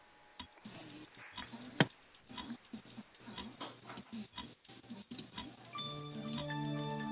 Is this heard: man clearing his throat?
no